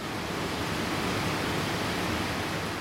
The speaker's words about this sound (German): Das Wasser rauscht. Ein Raum mit riesigen Becken, umringt von einem Labyrinth aus Rohren, Filtern und Pumpen.